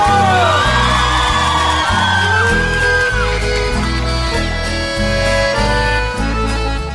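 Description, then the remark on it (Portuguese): A crowd whoops and yells with rising, gliding cries over loud, driving music with a heavy pulsing beat; the shouts are energetic but partly blend into the music. “Apaixonado, dá um grito!”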